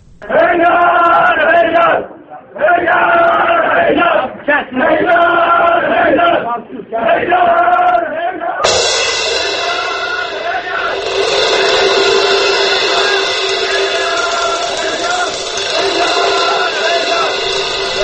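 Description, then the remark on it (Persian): Inside a building filled with smoke and tear gas, a crowd clamors loudly with voices shouting in rhythmic bursts of chanted slogans for several seconds, then swelling into a continuous dense roar of many people yelling at once. “توی ساختمون صدای همهمه و فریاد و شعار توی هم میپیچه، صدای سرفه از گاز اشکاور.”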